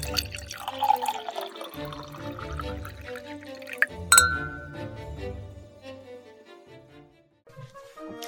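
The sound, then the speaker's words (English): Wine pours and trickles into a glass, with a bright clink partway through, over soft tonal music; no one speaks. “So pour a glass of vino and let's dive into the past.”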